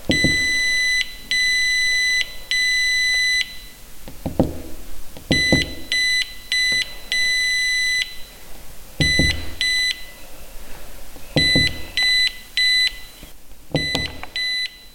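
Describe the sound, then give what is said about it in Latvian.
Morse code beeps: a loud, high-pitched electronic tone keyed on and off in long and short bursts, grouped in an uneven rhythm, with soft thuds and rumble underneath and no talking. “Tad te var arī cilvēki atbraukt un paklausīties un morzes kodu iemācīties.”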